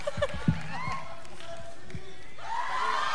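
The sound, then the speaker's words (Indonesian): A crowd cheers and claps steadily, with a few loud ball bounces and sneaker squeaks early on and voices calling out through the noise. “Tangan tepuk tangan”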